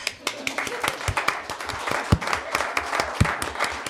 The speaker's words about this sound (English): Let's first clap.